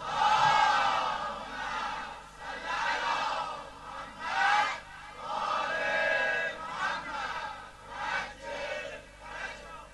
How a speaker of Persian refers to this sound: ناز قدم های امام مجتبی با تمام وجودتون هر چی صدا دارید یه صلوات بلند خواهد.